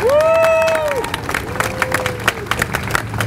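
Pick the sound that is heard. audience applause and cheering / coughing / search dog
audience applause and cheering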